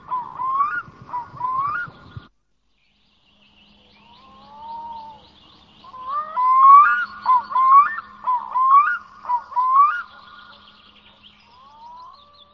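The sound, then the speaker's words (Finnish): A black-throated loon calls in clear, wavering tones: two short notes at first over a low rumble, then after a pause a loud, rhythmic run of repeated rising cries with no one talking. “Toisesta päästä voitaisiin sitten mainita kuikka, joka on aivan toisin kuin silkkiuikku, niin tämmöinen luonnontilaisuuden hyvä ilmaisu.”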